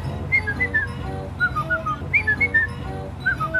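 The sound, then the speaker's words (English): A person whistles a family's short melodic signal tune, repeated three times in quick bursts of rising and falling notes, clear over a low background hum. “Do you remember our whistle?”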